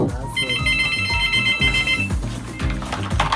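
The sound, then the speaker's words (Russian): A telephone rings with a bright, warbling electronic trill for about two seconds, heard over a steady, bass-heavy music beat that continues after the ringing stops. “Но толку от этого мало, потому как я поднимаю трубку только когда я знаю, кто звонит.”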